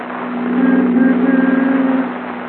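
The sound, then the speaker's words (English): A new convertible car's engine drones steadily as it drives someone home, a low, even hum that swells a little louder in the middle before easing back. No one speaks. “Phil is driving Jack home in his new convertible.”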